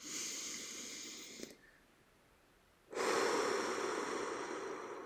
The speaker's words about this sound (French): Au fur et à mesure que nous soufflons, au fur et à mesure que nous expirons, ces tensions qui s'éloignent